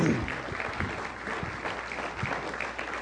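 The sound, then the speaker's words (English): An audience claps steadily, a dense wash of many hands with no voices over it, holding at an even moderate loudness for about three seconds. “you guys give a round of applause to Sean”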